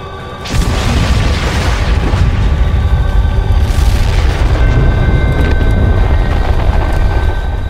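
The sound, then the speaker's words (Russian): A massive explosion at the port of Nakhodka in 1946 erupts suddenly, a deep booming blast that rolls into a sustained, heavy rumble with crackling debris, loud and enveloping, with no voices present. “И в этот момент ударил взрыв.”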